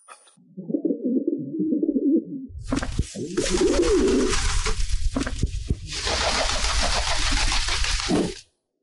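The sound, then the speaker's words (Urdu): A wild pigeon gives a low, throaty rolling coo, then loud rustling, flapping noise takes over with fainter cooing mixed underneath until it cuts off. “جی اور جنگلی کبوتر کے بارے میں آج ہم بات کرنے لگے ہیں.”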